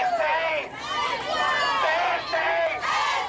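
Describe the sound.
A crowd of demonstrators at a night protest in East Pittsburgh, demanding answers after police shot and killed a 17-year-old, shout together, many raised voices overlapping in a loud, continuous roar with rising and falling chant-like surges throughout.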